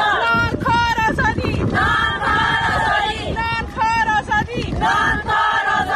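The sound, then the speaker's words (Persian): A crowd of Afghan women protesters at a march in Islamabad, Pakistan, shout slogans in unison demanding the release of fellow activists held by the Taliban, their high voices rising in loud, rhythmic chanted bursts with brief pauses between phrases, over steady wind rumble. “فریاد زنان افغان تا آسمان، زنان معترض در راهپیمایی اعتراضی اعضای ائتلاف مستقل جنبش‌های اعتراضی زنان افغانستان در اسلام آباد، پایتخت پاکستان، برای آزادی هم‌قطارانشان.”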